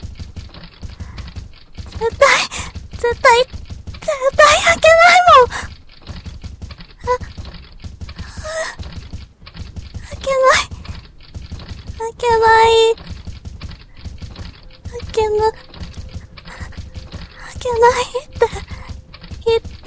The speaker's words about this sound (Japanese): ノック、もう、やめてよ。やめてったら、怖いよ。